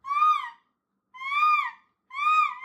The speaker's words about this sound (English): It's a hawk